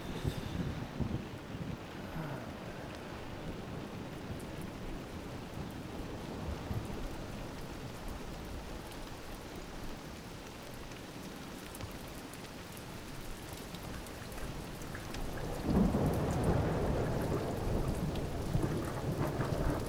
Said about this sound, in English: It's so easy to fall asleep and listen to the rain.